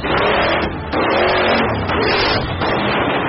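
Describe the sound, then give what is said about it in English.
The engine of a 2014 Ford Dodge Chevy one-ton hump truck revs hard and loud, its roar surging and easing in several bursts with brief dips in between, a continuous rumble throughout with no voices. “New for 2014, the Ford Dodge Chevy one-ton hump truck.”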